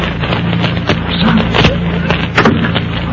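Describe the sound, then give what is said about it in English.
Two sharp gunshots crack out a moment apart over a steady background hiss, brief, with a softer knock just before them, fired from inside a darkened room as its door is opened. “As they open the door, two shots ring out from the inside of the darkened room.”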